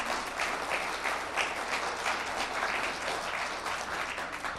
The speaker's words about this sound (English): I would like to give a round of applause to our musicians. They were amazing.